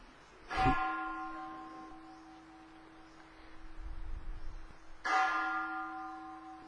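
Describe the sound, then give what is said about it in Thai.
A temple bell is struck twice, several seconds apart, each strike ringing out with a bright metallic attack and a long, steady humming tone that lingers between the hits. “จิตใจหนีไปฟังเสียงระฆังซิดูว่าจิตไหวไหมเขาเลิกตีไปเลยฟังออกไหมเห็นความไหวของจิตบ้างไหมเอาเอ ตีอีกสองที”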